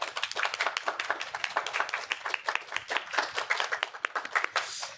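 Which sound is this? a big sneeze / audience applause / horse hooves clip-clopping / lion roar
audience applause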